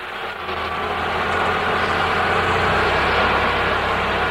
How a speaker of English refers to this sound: At the Santa Teresa border crossing in southern New Mexico, a forklift moves lumber back onto a truck.